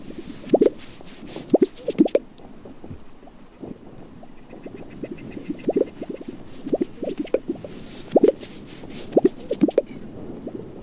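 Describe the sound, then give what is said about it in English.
Gunnison sage grouse display: hollow, bubbling pops and low plops come in irregular clusters, over a soft wind-like hiss with faint, higher ticking chatter in between. “That's the Gunnison sage grouse?”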